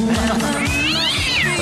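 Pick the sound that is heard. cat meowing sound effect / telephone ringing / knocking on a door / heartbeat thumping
cat meowing sound effect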